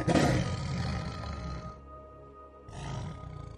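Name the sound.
tiger roaring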